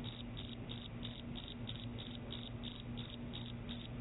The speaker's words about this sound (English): So I'm going to test something out here. This is my cricket sound.